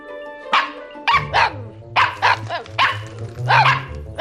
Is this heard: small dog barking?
yes